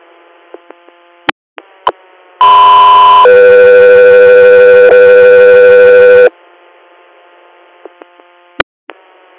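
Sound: dispatch alert tones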